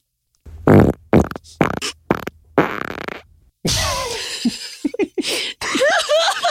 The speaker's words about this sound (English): Let's hear the second fart, please.